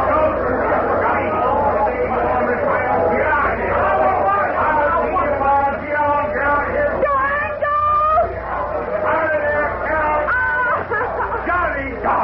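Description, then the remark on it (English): A dense crowd murmurs and chatters continuously, many overlapping voices forming a steady hubbub with occasional louder calls and exclamations rising above the babble. “somebody in that crowd's offered him the Brooklyn Bridge to boot.”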